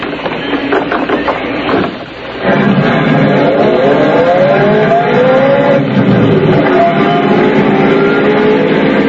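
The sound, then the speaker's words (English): A car engine runs steadily, then after a brief dip revs up and pulls away, the rising engine tone sweeping upward as it drives off, loud with no voices. “But that's my car.”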